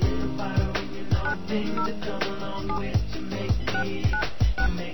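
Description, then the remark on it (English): Several short touch-tone beeps as an area code and phone number are dialed for a call after an automated prompt, spaced irregularly over a steady background of music with a thumping beat. “Please enter the area code and phone number you wish to call.”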